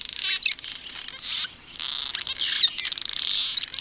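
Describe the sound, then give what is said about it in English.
Cliff swallows give squeaky, chattering calls, including the squeak call that tells others they've found food, in a dense, overlapping chorus of high notes that runs almost without pause, moderately loud, with no voices. “These birds have only five different calls, but one, a unique squeak call, tells others that they've found food.”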